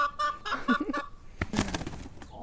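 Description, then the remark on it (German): Laying hens cluck in a string of short, quick, harmonic calls, followed by a burst of rustling and what sounds like wings briefly flapping. “Über 38.000 Legehennen haben sie und die anderen Hühnerretter schon befreit.”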